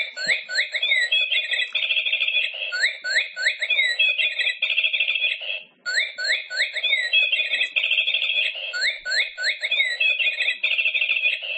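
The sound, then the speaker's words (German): A plastic toy bird sitting on a piece of branch, set off by its sensor, chirps loudly and electronically, cycling through the same shrill warbling trills and whistles in a repeating loop, with a brief pause midway before the pattern starts over. “Er hat einen Bewegungssensor und wenn er eingeschaltet ist und der Sensor eine Bewegung erfasst, fängt der Vogel an, einen fürchterlichen Lärm zu machen.”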